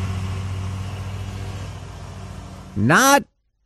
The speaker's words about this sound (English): How early is too early? Robust debate. This was 7:25 this morning. Riding lawnmower.